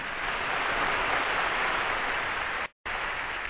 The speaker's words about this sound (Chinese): 感谢圣乐团精彩的演出，请大家再给予热烈的掌声，谢谢他们。